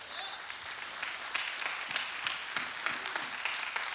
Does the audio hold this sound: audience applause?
yes